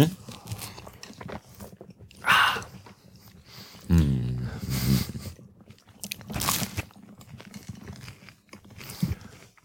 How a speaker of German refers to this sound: Ich schneide das auch einfach nicht raus. Wie wir hier die ganze Zeit nur am Kauen sind.